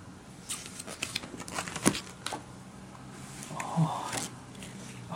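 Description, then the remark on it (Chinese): Quiet rustling and crinkling of paper, with a few sharp crisp bursts and soft handling noises, as the pages of a picture book are turned at a steady, unhurried pace during bedtime reading. “翻页吧。 再翻页好不好？ 再翻页。”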